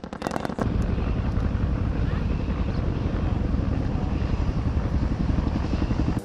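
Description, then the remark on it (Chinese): A Cobra attack helicopter roars past loud, its rotor beating in a rapid, steady chop that fills the whole recording after a brief flurry of sharp cracks at the very start. It flies at tactical altitude, providing air support. “眼镜蛇攻击直升机，能采取战术高度实施空中支援。”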